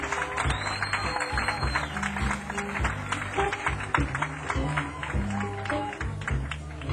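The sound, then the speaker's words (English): Sustained audience applause, a dense crackle of many hands clapping at a steady loudness throughout, with low sustained musical tones from a band running underneath. “Before we start, how about another big round of applause”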